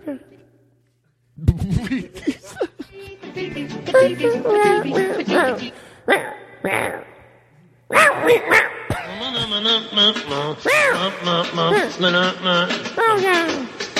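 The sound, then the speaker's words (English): A cat vocalizes in a long, nearly continuous stream of warbling, talkative meows and yowls with wavering pitch, broken by a short pause in the middle, fairly loud throughout. “No, seriously, cat, what are you saying?”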